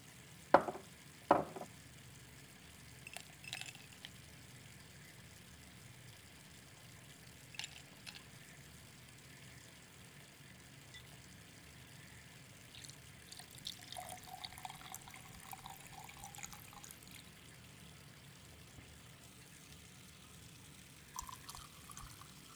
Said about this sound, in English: Okay, now let me pour you a drink.